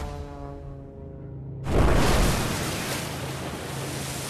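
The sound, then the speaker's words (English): A steady droning aircraft engine suddenly gives way to a loud crashing splash, then a sustained rushing roar of churning water as the plane crash-lands into about 3 feet of seawater, which puts out the flames on its port engine. No voices. “They've landed in about 3 feet of water. Seawater has extinguished the flames from the port engine.”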